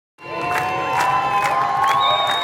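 A large outdoor crowd of thousands at Barcelona's harbour roars and cheers continuously, drumming, applauding and chanting "Free Palestine" and "Gaza, you are not alone" as about 20 boats leave the harbour. Sustained shouted voices and sharp, loud drumbeats and clapping cut through the din.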